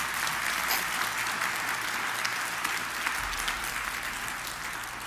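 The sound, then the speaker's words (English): An audience claps steadily for about five seconds after the preacher invites them to, a dense, even wash of many hands at a constant loud level, with no voices standing out above it. “Now you can clap.”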